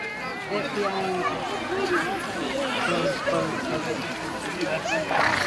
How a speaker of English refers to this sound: A rousing cheer, ladies and gentlemen.